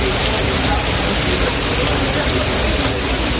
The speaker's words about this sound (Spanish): La lluvia. La lluvia, las botas de agua, los paraguas. A esta hora sigue lloviendo con intensidad y lo hace desde la madrugada y lo va a hacer durante todo el día.